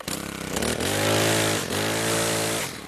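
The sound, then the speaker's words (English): Gasoline leaf blowers and lawnmowers, run by Latino immigrant gardeners in Southern California residential yards, drone loudly and steadily, the pitch climbing as an engine revs, dipping briefly, then surging again. No one speaks. “It's the noise from all those leaf blowers and lawnmowers that keep residential yards and gardens neat and trim.”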